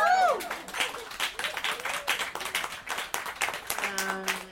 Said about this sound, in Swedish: Är det inte värt en applåd?